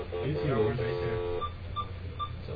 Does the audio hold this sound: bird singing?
no